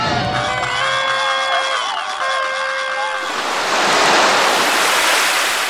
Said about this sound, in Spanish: El mar todo lo cura. El mar tiene minerales, sales, movimientos, seres vivos. Otro mundo que ruge, que tiembla, que sube y baja según la luna.